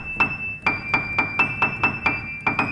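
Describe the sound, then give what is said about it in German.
A piano key pressed repeatedly, its hammer rising from below to strike the string, about eleven quick, evenly spaced hammer blows with a bright high note ringing on steadily underneath. Clear, with no voices. “Wenn ich hier auf eine Taste drücke, kommt von unten... Schau mal, das kann man sehen von hier. Von unten kommt hier so ein Hammer nach oben.”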